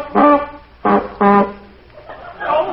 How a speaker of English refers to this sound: Did you honk for me, Mr. Diddy's, or are you keeping a duck in your desk?